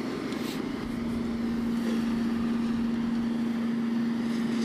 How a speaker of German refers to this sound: Ist halt ein Park mit ein paar Bäumen, jede Menge Grünfläche und einem Rasenmäher. Einem großen. Das ist eigentlich, genau genommen ist das ein Trecker mit hinten dran hängendem Rasenmäh-Ding.